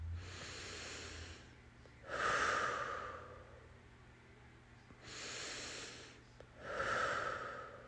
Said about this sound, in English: And now I'm going to put my hand on my heart and pump it up. As if it's not pumped up enough. Pressing on the heart, breathing right into it.